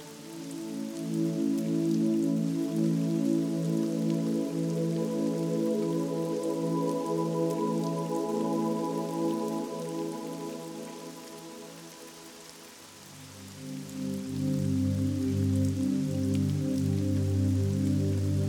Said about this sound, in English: As you walk away from the cool, clear waterfall, you stand a little taller.